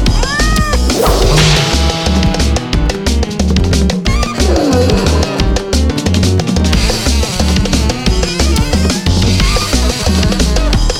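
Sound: cat meowing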